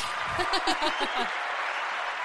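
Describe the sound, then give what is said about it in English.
A crowd applauds and cheers, steady dense clapping with bright, pulsing whoops and voices riding over it for the first half, then settling into a continuous wash of applause. “That this deserves the cheer.”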